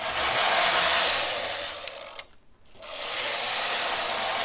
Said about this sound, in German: Ich finde, es hat bei der Strickmaschine durch dieses Hin von links nach rechts, von rechts nach links, erinnert es mich oft an ein Meeresrauschen oder halt an Atemzüge.